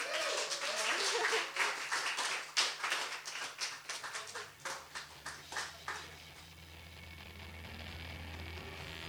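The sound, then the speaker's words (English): A crowd applauds with dense, crackling clapping that gradually thins into a few scattered claps and fades out after about six seconds, leaving a low steady hum. “Let's hear another round, a nice round of applause.”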